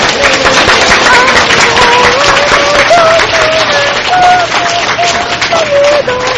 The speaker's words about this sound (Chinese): 感谢主，要不要给他们一个很大的掌声？